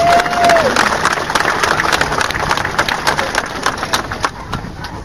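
At a gathering about Priory Hall in Dublin, a crowd gives a speaker a loud, sustained round of applause, dense overlapping claps holding steady for several seconds before tapering slightly toward the end.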